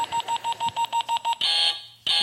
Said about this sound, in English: And then the buzzer goes off.